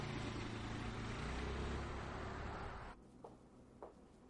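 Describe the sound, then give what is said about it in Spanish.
A car's engine rumbles steadily as it arrives at a residence, then cuts off abruptly as it stops, followed by a couple of brief soft clicks in the quiet. “llega en su coche a la residencia RMS.”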